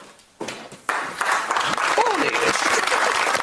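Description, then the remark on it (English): A small group breaks into clapping that builds within a second into steady applause, with a brief vocal whoop rising over it partway through. “Let's all clap horniest.”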